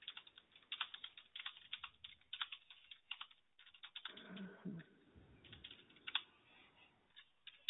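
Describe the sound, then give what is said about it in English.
Rapid, uneven clicking of keys on a computer keyboard, fairly quiet, with brief pauses and a soft lower rustle partway through; no talking. “I know typing you're fine. I can hear you type”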